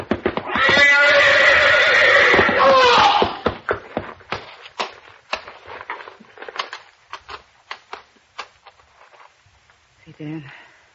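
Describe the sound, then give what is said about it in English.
A horse in a stall lets out a loud, shrill whinny that rises and falls for about three seconds, followed by a run of sharp hoof stamps and clatters, then a low snort at the end. “You're backing into the horse.”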